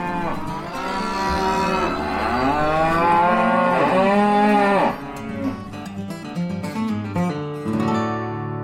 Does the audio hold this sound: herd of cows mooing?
yes